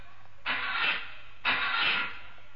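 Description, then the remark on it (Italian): Two short bursts of a car engine being cranked as someone tries to start it during a vehicle test, each about half a second with a pause between, loud, with no speech over them. “Mi fai partire quella macchina?”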